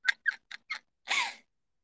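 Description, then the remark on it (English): A female cat gives four short, squeaky chirps in quick succession, then one drawn-out meow. The sounds are faint, in the background, with no talking. “Can you guys hear my cat molding in the background right now?”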